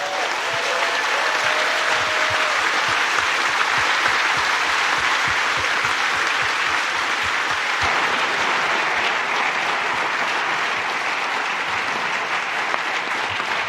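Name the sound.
loud audience applause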